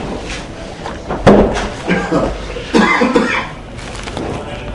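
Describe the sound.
A door shuts with a sharp thud, followed by a second softer bump and some shuffling and muffled voices.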